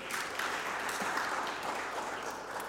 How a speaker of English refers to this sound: They are still going to clap.